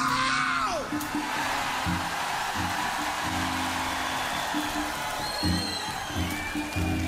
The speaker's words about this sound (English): So you can scream as loud as possible because there's no ceiling to bring down. Now, I'm going to pump you up one more time, Lugano, and I want to hear the mountains shake when you scream. Are you ready? Hello, Lugano!